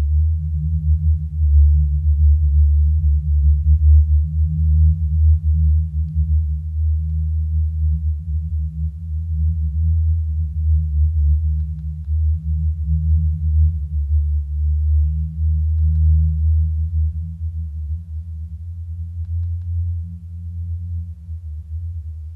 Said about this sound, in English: It's another kind of space, so-called singing sands, booming dunes, which interested me because of the mythological stories and about it. I thought it was a myth. I didn't know it really existed.